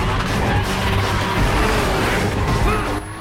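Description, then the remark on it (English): Two sports cars, one a 350Z, race and drift in synchronization around a bend on a mountain road, engines roaring loudly and tires hissing in a dense, continuous wash of noise, with music or effects layered underneath. “The two cars drift in perfect synchronization around another bend.”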